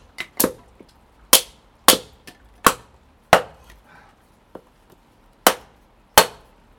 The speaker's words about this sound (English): I'm just going to chop some kindling so I can light the fire. There's a great big puddle on the floor where I normally chop. I'm just going to put you on the bin in the garden, in lee of the shed. Bear with me whilst I hammer a little.